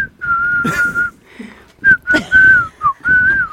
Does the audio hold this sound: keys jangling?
no